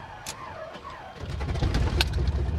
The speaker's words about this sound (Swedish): Där gick motorn igång.